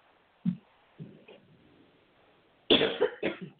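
coughing fit

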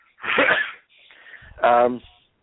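cough

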